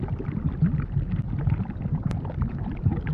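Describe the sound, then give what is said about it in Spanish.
Thick, low bubbling of volcanic magma, a continuous churn of deep gloopy pops and gurgles at a steady, fairly loud level, with one brief sharp crackle partway through and no voices. “Pensarás que son burbujas comunes, tal vez parecido a lo que suena cuando algún adulto está preparando comida. Pero no, se trata del magma de un volcán, o lava, como muchos la conocen.”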